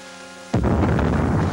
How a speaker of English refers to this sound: Oh, that's the cannon from New Orleans. You can hear it when the wind's right. There it goes again. Wind has shifted to the south.